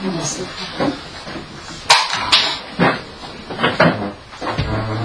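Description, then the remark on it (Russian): A chair is lifted and shifted, giving a couple of sharp wooden knocks and brief scraping bumps, with indistinct voices talking in the background. “Вот этот стул возьмите, вот этот. И туда его.”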